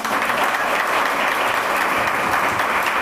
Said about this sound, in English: Round of applause for the Earl Sears.